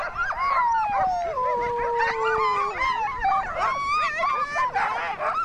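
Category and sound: animal, sled dogs howling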